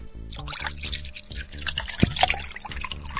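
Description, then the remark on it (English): A clear liquid that looks like water pours steadily from a bottle into a glass, a gurgling trickle with rhythmic glugs that rises slightly in pitch as the glass fills, with no talking. “I'm going to pour it out into a glass here.”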